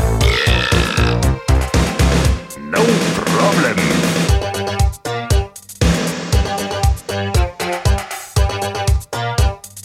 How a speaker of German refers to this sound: Ich mach jetzt ein Bäuerchen.